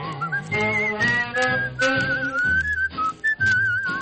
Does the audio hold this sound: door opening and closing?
no